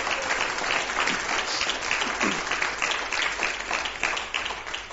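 A crowd applauds steadily, a dense wash of many hands clapping at once that stays loud and even for the whole stretch, with no voices standing out.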